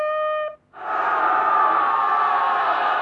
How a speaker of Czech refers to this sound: To je děsivý válečný pokřik izraelských synů.